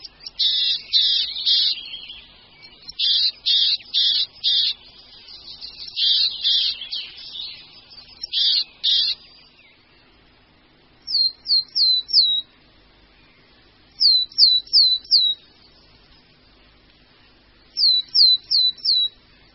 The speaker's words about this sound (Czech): To byla síkora lužní.